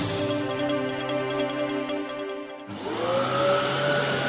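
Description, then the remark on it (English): A vacuum cleaner runs steadily with a loud motor whine; partway through the motor dips and then revs back up to a higher-pitched roar. No voices are heard. “Vacuuming, folding laundry, and doing dishes aren't fun chores, but these simple activities could extend your life.”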